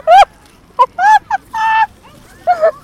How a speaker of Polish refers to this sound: O Jezu, co za ptak! On jest osrany przez innego.